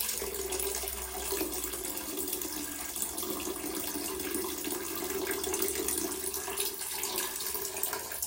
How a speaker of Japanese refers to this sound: じゃあどれぐらい入ってたか、水の中にね、おしっこ落としてみるので、その後も聞いてくれたら嬉しいです。結構入ってるよ今回。